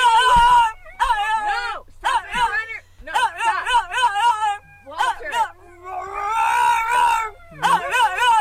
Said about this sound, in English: Drop it. Drop the phone. Drop it. Sit. No barking.